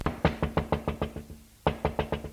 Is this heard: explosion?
no